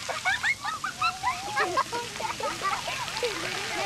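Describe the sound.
Steady spraying and splashing water at the Splash Pad at Altadena Park, with a dense wash of noise and lots of children's excited voices and shouts overlapping throughout.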